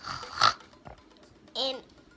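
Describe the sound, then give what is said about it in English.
A child's voice imitates a pig's oinking in two short, close bursts: a rough snorting grunt first, then a wavering, squealy oink after a brief pause. “Yay, you are really getting piggy with that animal,”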